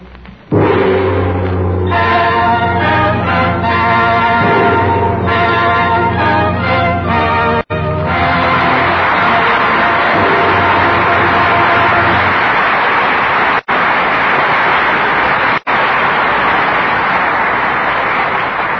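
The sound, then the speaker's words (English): A swell of orchestral music closes a drama about China, then gives way to loud, sustained applause from an audience for the performances of Loretta Young, Alan Ladd and William Bendix, carrying on steadily with no talking. “That applause is for the valor of China and the sincere performances of Loretta Young, Alan Ladd, and William Bendix.”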